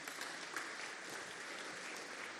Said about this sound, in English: I know you will clap your hands for Jesus. Do that right away.